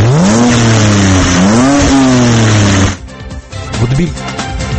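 A new-generation BMW X3 SUV engine roars loudly at a motor show in Paris, its pitch climbing and dipping through a couple of revs, then it drops off abruptly into a quieter, uneven rumble.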